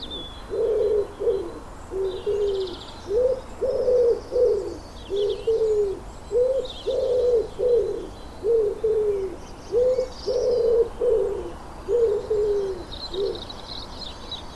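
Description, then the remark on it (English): Birds singing in a garden: a steady run of low, repeated cooing phrases, roughly one per second, with faint higher chirps scattered above. No one speaks. “So there are a lot of things that I do miss, but it is really good to be able to just stand in your garden and listen to the wonderful sounds of nature, the birds and everything else.”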